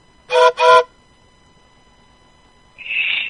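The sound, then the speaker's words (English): Two short, loud toots of a train whistle blown by a person over the telephone in quick succession, followed after a quiet gap by a thinner, higher-pitched sustained tone. No one speaks. “I blow a train whistle.”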